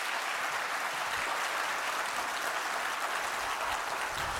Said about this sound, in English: I'm looking forward to a huge applause. Have fun with the talk.